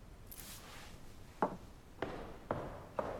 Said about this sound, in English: Outside the door, Julia marches off down the corridor. Rex hears a heavy footfall.